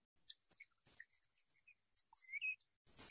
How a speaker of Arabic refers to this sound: وبكذا أنا عملت دمج للصوتين هذول اللي هم صوت العصافير مع صوت الموية. نسمع.